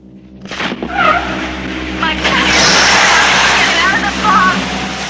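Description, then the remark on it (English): A truck engine roars as the vehicle speeds down the road towards a house on White Beach Lane, then tires screech loudly in several squealing bursts while it skids to a stop and parks, over a wash of rushing road noise. “Nick speeds down the road towards the house and parks up.”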